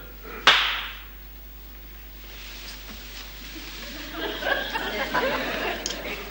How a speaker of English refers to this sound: When I clap my hands, you'll wake up and you will remember nothing of what happened yesterday.